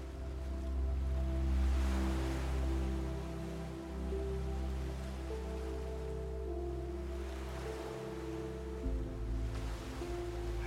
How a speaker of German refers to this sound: Liegst hier in deinem weichen Bett und hörst einfach so den Wellen zu, wie sie ganz sanft an den Strand gespült werden.